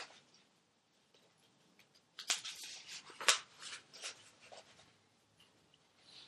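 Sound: paper pages being shuffled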